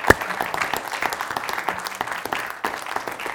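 An audience at a live talk claps steadily for a participant, a dense patter of many hands with one sharper clap at the start, holding an even loudness throughout.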